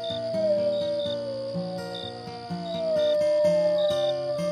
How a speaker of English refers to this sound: That's just a coyote. Are you sure? Because that sounded like a werewolf to me.